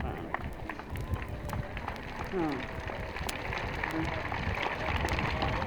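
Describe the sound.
An audience applauds for itself steadily, many hands clapping in a dense, continuous patter at even loudness throughout, with a brief low murmur of voices rising partway through.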